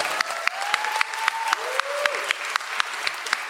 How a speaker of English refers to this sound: Big round of applause for that, please.